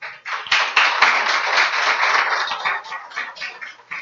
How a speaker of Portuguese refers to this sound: Então, foi aprovada... Vamos aplaudir esta chapa.